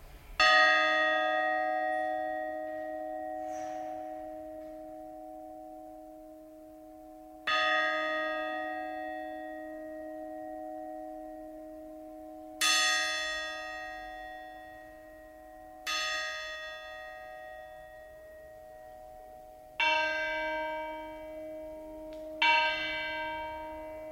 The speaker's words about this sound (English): If you tap the bell with a hammer at different points, you can also get different sounds, even different notes, like this.